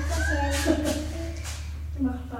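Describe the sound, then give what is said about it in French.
A person's voice mimics a cat's meow, a drawn-out whining note that rises and falls, followed by a few breathy, hissing bursts over a steady low hum. “Qu'est-ce que je vais faire, moi? Miaou.”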